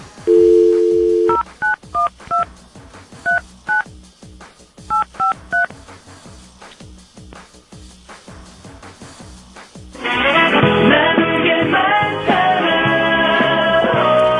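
A steady dial tone gives way to a quick series of telephone keypad beeps in short bursts as a phone call is dialed to a colleague downstairs where cinema tickets are on sale, then a pause before a loud, bright musical ringtone melody plays to the end.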